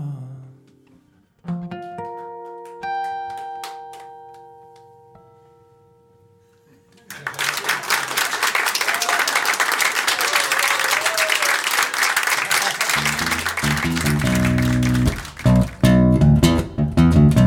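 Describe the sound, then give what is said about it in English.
Soft tonal music plays alone, then an audience bursts into loud, sustained clapping that continues steadily, with the music returning underneath the applause toward the end. “Clap your hands.”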